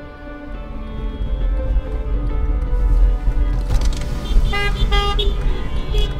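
Multiple car horns honk together in a car caravan of almost 100 cars in Little Village, some sustained and others in short bursts, layered over a steady rumble of idling and moving vehicles, loud and chaotic.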